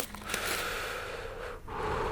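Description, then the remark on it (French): A person steps back and takes a deep breath before ringing a doorbell one last time: a long airy inhale held for about a second and a half, a brief catch, then a steady exhale, with no talking. “Je recule d'un pas, prends une profonde respiration et hésite à sonner une dernière fois.”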